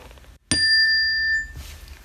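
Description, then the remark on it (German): A doorbell rings once with a bright, sharp chime that hangs for about a second before fading out, clear, with no one talking. “Es läutet an der Tür.”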